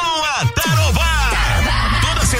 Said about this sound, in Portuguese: Fala aí, galera da obra. Tá na hora de dar aquela pausa e soltar o grito. Churrasqueando na obra.